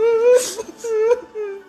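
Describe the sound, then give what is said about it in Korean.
A voice imitates the cowardly lion from The Wizard of Oz suddenly whimpering and sobbing: three drawn-out, wavering whimpers with breathy sniffles between them, fairly loud, with nothing else in the background. “그러자 갑자기 사자가 훌쩍훌쩍 울기 시작했죠.”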